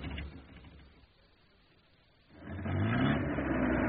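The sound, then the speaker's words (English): A car engine hums low, eases off briefly, then revs up loudly with a rising whine as the vehicle pulls away to drive to an avenue in Burlingame, staying steady to the end. “And keep the engine running.”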